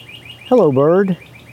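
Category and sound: bird, birds singing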